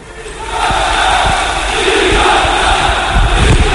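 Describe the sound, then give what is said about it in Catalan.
A large crowd shouts chants in the Palau basketball arena midway through the first quarter, breaking an earlier silence, a loud, sustained roar of many voices swelling slightly and holding steady throughout. “A la meitat del primer quart, però, es va trencar el silenci amb aquests crits.”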